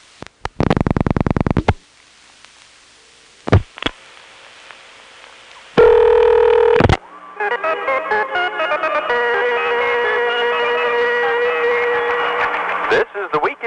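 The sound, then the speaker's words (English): Loud telephone line tones and a few short dialing clicks, then a strong ringing tone before a recorded voice answers over the phone line, sounding thin and filtered: a call to the Southern Bell Public Relations Newsline, a 391 number, reaching its recorded message. “so let's go ahead and call that.”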